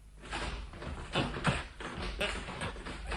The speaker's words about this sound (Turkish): Açılmıyor. Açılmıyor. Neden açılmıyor bu kapı